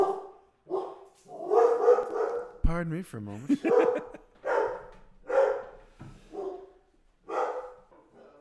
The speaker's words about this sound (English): And my dog goes nuts. It's good to have a dog when people show up at the house.